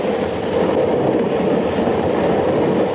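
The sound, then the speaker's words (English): A two-unit diesel engine pulls a 70-car freight train through a quiet valley in the Catskill Mountains of New York State at early dawn on a summer morning, a dense, continuous rumble with faint rhythmic clatter of wheels, loud and unbroken throughout with no voices. “his two-unit diesel engine, which is pulling a 70-car freight train through the quiet valley”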